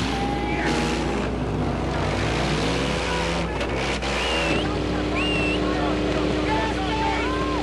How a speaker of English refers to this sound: Gentlemen, warm up your engines!